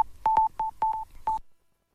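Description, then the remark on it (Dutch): A quick run of telephone keypad tones: about four beeps of uneven length at a steady mid pitch, each marked by a sharp click, then silence. No one speaks. “twijfel niet en bel 101”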